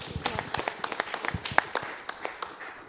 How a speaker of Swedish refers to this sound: En applåd för Jesus.